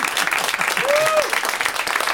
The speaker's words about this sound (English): Some of them tell their hands to clap when it's way too late.